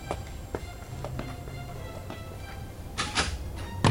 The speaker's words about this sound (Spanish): Se incorpora y mira con dolor la puerta que se cierra.